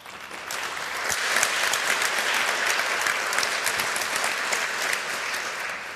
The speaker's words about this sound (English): so please give her a warm applause for her talk.